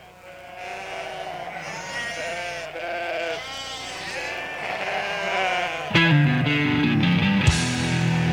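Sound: sheep bleating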